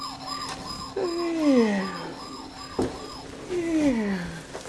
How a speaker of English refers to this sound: Push your siren. Push your siren